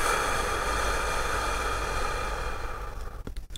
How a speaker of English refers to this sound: And then breathe out from the chest, the ribs, and the belly. Without being too forceful, try to breathe out more air than you usually do. Continue this breathing for 5 to 6 breaths. Breathe in. Now, breathe out.